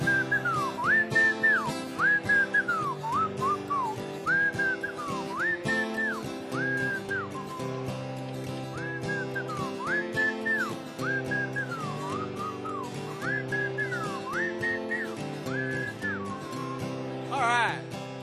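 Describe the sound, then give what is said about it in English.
A person whistles a bouncy, repeating melody over a steady instrumental backing, the clear whistled notes gliding up and down in short phrases for the whole stretch. “Alright, here's the whistle part, ready?”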